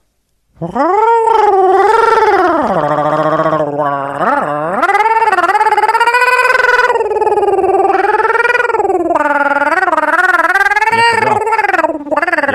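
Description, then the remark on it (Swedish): A voice imitates gurgling with one long, loud, warbling vocal sound that swoops up and down in pitch and wavers for about twelve seconds, with no other talk. “Var inte det där en gurgling?”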